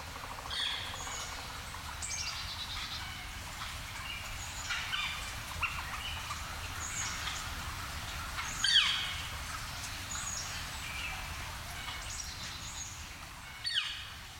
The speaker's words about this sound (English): Here's a flicker this fall calling from a treetop at Devil's Den State Park.